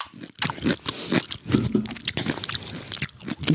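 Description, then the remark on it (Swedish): Wet crunching as someone chews a pickled gherkin, with a steady run of crisp bites and moist smacking over a few seconds and no talking. “Förlåt, det känner var en saltgurka.”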